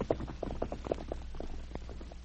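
A horse ridden toward Selkirk, its hooves clip-clopping in a steady, quick rhythm, each hollow knock sharp and moderately loud, with a low hum running underneath and no voices.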